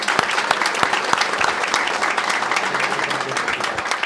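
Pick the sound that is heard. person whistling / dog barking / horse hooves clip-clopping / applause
applause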